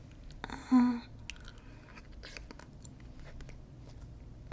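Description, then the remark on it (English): Quiet wet mouth sounds with a short louder swallowing gulp near the start, followed by scattered soft clicks and smacks against a low background hush. No one speaks. “Do you want me to swallow, sir? Mm. I can do that for you.”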